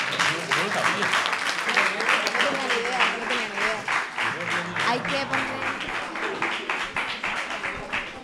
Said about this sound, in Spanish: Un fuerte aplauso para ellos, porfa.